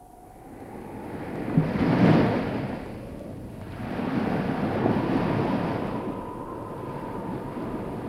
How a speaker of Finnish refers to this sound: Näyttääpä olevan kerrassaan paha väylä. Vesi kohisee kuin pahemmassakin virrassa ja korallikallioiden huippuja pistää esiin aalloista vähän joka puolella.